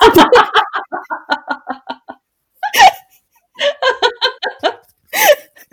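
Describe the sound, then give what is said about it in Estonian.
A rapid run of short, voiced hiccup-like bursts, followed by a few sharper isolated gulps and another quick cluster, fairly loud, with brief pauses between. “Luksub raustud kuskil praegu.”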